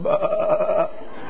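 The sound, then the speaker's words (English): A single wavering bleat, like a sheep's, held for just under a second from a person imitating the animal while hiding in a closet in a distant room during a hide-and-seek game, then fading into quiet room noise. “"We hear our little lost sheep.”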